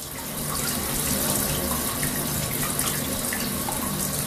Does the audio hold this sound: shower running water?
yes